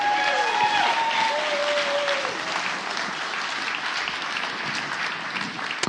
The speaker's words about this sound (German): Ihr Kinder, ich glaube, ihr habt das ganz toll gemacht und ich finde, da können wir noch mal einen ganz, ganz fetten Applaus für die Kinder geben.